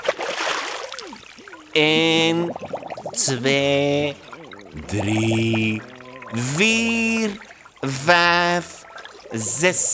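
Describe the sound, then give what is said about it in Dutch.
A voice imitates an alpaca dunking its head into water, making five wobbly, gurgling bubble sounds in a steady rhythm, loud, after a brief splashy rush at the start. “Vol goede moed steekt de alpaca zijn kop in het water.”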